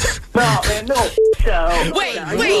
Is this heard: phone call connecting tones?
yes